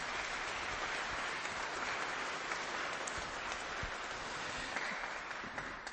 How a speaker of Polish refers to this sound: Przyjechali ze Szczecina. Myślę, że za tę drogę to też już brawa.